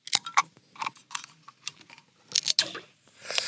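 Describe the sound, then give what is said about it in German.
A beer bottle being tapped on top and then opened: a string of sharp clicks and metallic taps in an irregular rhythm, ending in a brief breathy hiss as the cap comes off. No voices. “Erstmal Bier auf, Moment.”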